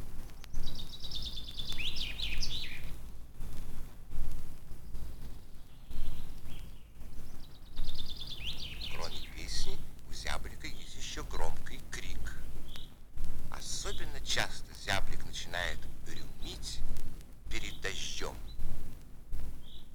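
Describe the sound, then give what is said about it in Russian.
A common chaffinch sings several bright, rapid trilling phrases that tumble downward and end in a flourish, repeated at intervals over steady background hiss. “Поет зяблик.”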